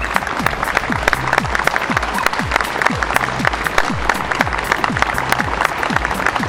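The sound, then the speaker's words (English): People across the country clapping outdoors to remember Captain Sir Tom Moore, a steady, dense patter of many hands that continues without a break, with some repeated low swooping tones underneath. “People up and down the country are out clapping to remember Captain Sir Tom Moore.”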